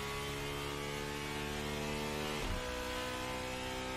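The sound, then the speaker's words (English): A high-revving car engine, built by Cosworth, holds a loud, steady, whining drone, with a brief drop in pitch about midway, like a gear change, before it carries on. There is no talking. “Very high revving car.”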